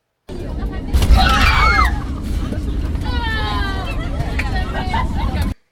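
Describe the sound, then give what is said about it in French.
Passengers cry out and shriek together over a heavy, loud rumble as an airplane suddenly touches down at Charleroi airport, with a burst of voices early on and more scattered yells afterward. “D'un coup, l'avion s'est posé. On a tous crié.”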